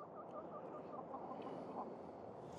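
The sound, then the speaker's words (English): A rooster, one of two roosters in a community garden in Springfield, clucks repeatedly amid a dense chorus of other poultry, a steady mid-level din of overlapping chicken sounds with no talking. “So there's two roosters in here? Yeah, this one right here.”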